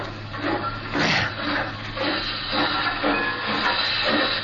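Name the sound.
steam locomotive hissing steam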